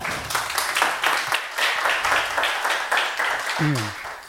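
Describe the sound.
An audience applauds steadily for several seconds, a dense crackle of many hands clapping, and a brief voice cuts in just as it ends.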